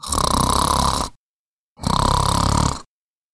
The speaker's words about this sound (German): Dann legte er sich wieder ins Bett, schlief ein und begann laut zu schnarchen.